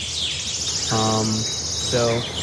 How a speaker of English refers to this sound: And you can, at the very least, enjoy the nature sounds and the birds chirping in the background.